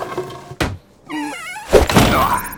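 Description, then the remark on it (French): A door lying on the floor being smashed: a sharp thud, a brief buzzing whine, then a loud, rough crash of breaking wood that rings out and fades. No one speaks. “Il faut que je brise un truc. Ils sont encore en train de se perdre, ces idiots. Une porte!”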